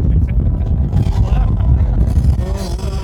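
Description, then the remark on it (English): A boat's engine drones in a steady, loud low rumble that fills the whole moment, with faint, indistinct voices murmuring underneath. “We can't really leave, though, because we're on a boat.”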